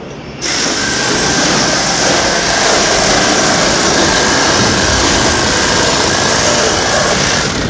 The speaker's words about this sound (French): Oh là là, alors là, ça, c'est une scie.